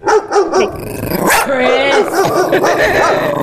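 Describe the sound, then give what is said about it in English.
Several short dog barks and yips come through a phone on loudspeaker, overlapping with people talking at moderate loudness. “Oh, he stopped barking.”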